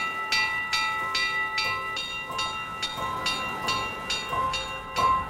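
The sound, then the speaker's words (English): An alarm rings out across the water as swords hammer on shields: a steady series of about eight sharp, bright metallic clangs, each leaving a ringing tone that carries into the next strike, with no voices. “Someone's sounding the alarm.”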